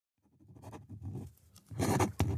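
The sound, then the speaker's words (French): A pen scratches across paper in quick, uneven strokes as a name is signed, a short signature growing louder toward the end with a final sharp flourish. “Qu'est-ce que tu as rajouté ? Mon nom. J'avais oublié de signer.”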